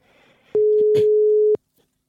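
telephone ringing tone

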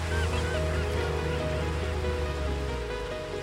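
ocean waves

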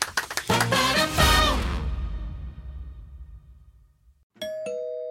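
doorbell ringing

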